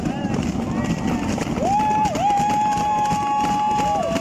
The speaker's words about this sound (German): Der Himmel über dem Tourmalet war grau. Tief hingen die Wolken. Nebel macht die Straße fast unsichtbar. Das Publikum aber peitschte die Rennfahrerinnen vorwärts.